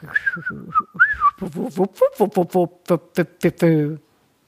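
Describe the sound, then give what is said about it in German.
A person imitates a greater scaup drake's low whistling call, first with a short wavering whistle, then about a dozen quick, evenly spaced hooting vocal syllables, fairly loud. “Egal, und der Erpel, tief pfeifend.”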